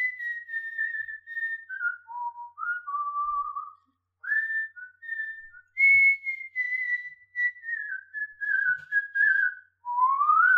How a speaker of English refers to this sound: Because I'm actually a proud whistler.